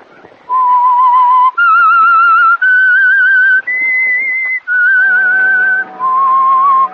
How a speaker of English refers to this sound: Now, back to the whistle.